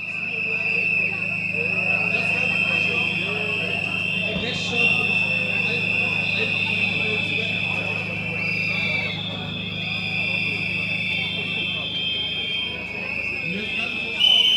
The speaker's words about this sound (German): Viel war von den Reden nicht zu vernehmen. Das meiste ging in den Pfeifkonzerten der Gegendemonstranten unter.